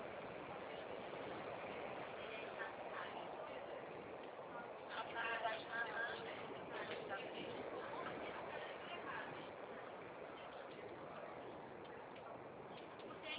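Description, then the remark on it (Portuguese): A steady, dense roar of street traffic with heavy buses rumbling along a busy avenue, heard from a noisy room in a medical outpatient clinic, continuous throughout, with faint muffled voices mixed in around the middle. “Aí fica esse barulho infernal de ônibus aqui na avenida.”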